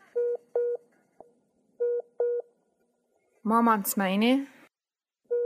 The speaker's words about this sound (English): She barely hears what her mom's saying. Then the call cuts off.